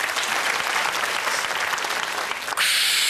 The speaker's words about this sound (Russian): Ваши аплодисменты.